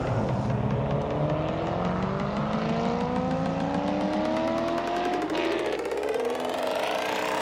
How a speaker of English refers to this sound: The taxi accelerated away from the traffic circle and brought Harvey straight to the corner of Moskovska Street and St. Leningrad Avenue.